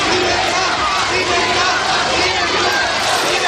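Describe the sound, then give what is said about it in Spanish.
A large crowd at the gate of the Guadalajara prison in 1998, as former Interior Minister Barrionuevo and former Security Secretary Rafael Vera entered prison, shouts and chants together in a dense, continuous roar of many voices, steady and loud throughout with no pauses. “Este es un sonido que nos llega de un lejano 1998, de la puerta de la cárcel de Guadalajara, donde entraron el exministro de Interior Barrio Nuevo y el exsecretario de Seguridad Rafael Vera.”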